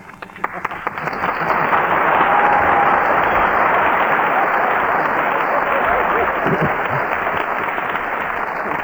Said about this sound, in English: I heard that applause.